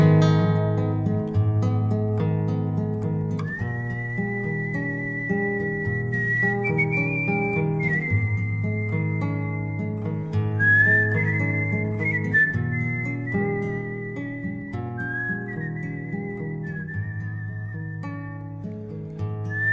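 A lone human whistle carries a slow, sad melody of long held notes, clear and steady above soft, sustained instrumental accompaniment throughout, with no one speaking.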